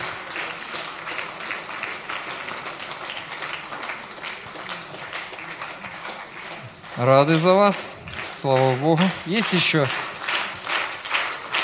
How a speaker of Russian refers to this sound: хорошие аплодисменты.